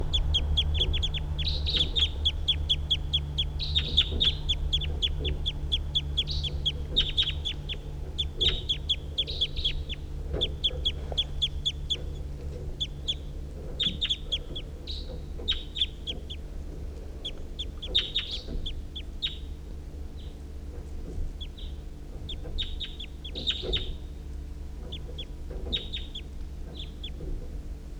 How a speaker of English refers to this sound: recording the wild birds.